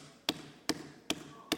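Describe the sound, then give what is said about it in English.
Four sharp knocks on a house door land at an even, unhurried pace, each a crisp rap against the solid surface with a quiet background between them. “And he knocks some more.”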